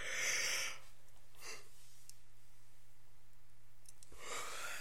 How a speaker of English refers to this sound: I'm sorry about these yawns, that's ridiculous.